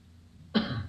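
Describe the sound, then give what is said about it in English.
A single sharp cough bursts out after a moment of near silence, fairly loud, with a rough, breathy tail that carries on briefly. No one speaks. “I'll be 1,000 feet above Earth and cough.”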